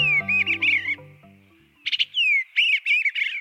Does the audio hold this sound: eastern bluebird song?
yes